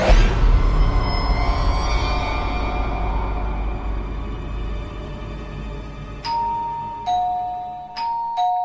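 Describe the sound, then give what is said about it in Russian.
A doorbell rings at exactly eight o'clock, chiming twice in a two-tone ding-dong pattern, clear, following several seconds of low rumbling background noise. No one speaks. “Звонок в дверь раздался ровно в 8.”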